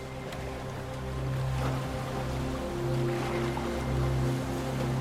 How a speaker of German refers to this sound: Außerhalb des Atolls angekommen, ist es dann soweit. Die Segel werden gesetzt. Mit einem Knattern entfalten sie sich und wehen im Wind.